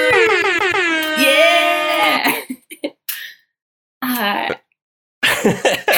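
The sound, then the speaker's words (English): A voice mimics air horn blasts: one long, loud, brassy honk followed by a few shorter bursts with brief gaps between them. “Oh, air horn, air horn.”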